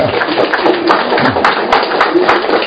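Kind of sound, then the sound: crowd, audience applause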